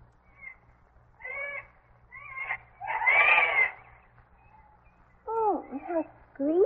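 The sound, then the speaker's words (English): At daybreak, a jay calls repeatedly, a series of harsh, nasal, somewhat mewing cries in short bursts, one louder and rougher than the rest, over a faint low hum. “That's a jay. Not my kind of bird.”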